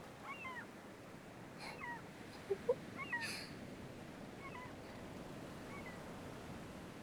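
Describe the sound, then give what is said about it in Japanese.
Gulls give scattered mewing cries over a steady wash of surf at the sea, several thin calls drifting in and out, with a couple of short clicks or knocks midway. “この鳴き声、すごく海って感じがするから好きなの。”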